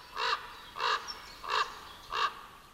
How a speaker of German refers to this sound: An ihrer prägnanten Stimme lassen sich richtige Raben auch aus der Ferne leicht erkennen. Seit sie unter gesetzlichem Schutz stehen, sind sie wieder häufiger zu hören.